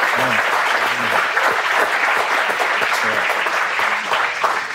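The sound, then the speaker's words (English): A crowd claps steadily and loudly throughout in tribute to Kobe, dense overlapping applause with a few faint voices murmuring underneath. “So we should clap for Kobe.”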